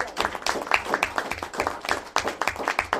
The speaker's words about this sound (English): So congratulations on the award. I think we need some applause.